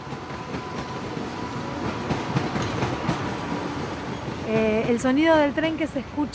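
A train rolls along the rails by a former detention centre with a steady, loud rumble and faint rhythmic clacking; in the last couple of seconds a wavering, whining tone rises over the noise.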